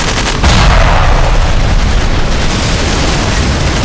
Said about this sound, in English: There was a blinding green flash as the enemy's particle beam cannon exploded.